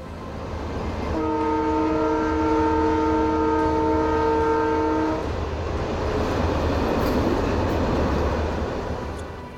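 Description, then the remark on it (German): A large train rushes past on the rails with a loud, steady rumble, while a long horn blast sounds for about four seconds near the start. No one speaks. “Und ich sehe einen Zug, einen großen Zug, wie er auf den Schienen fährt und wie er mit bedrohlicher Geschwindigkeit auf die Arche zurauscht.”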